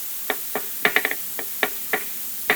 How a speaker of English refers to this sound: That's a pencil in the hand of a nervous worker. He taps it that way to help him think.